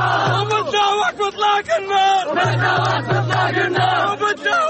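A large crowd celebrates outdoors in the streets of the Gaza Strip after the announced ceasefire agreement between Israel and Hamas. Many overlapping voices shout and cheer loudly and continuously, with some rising chant-like calls and a steady low hum running underneath.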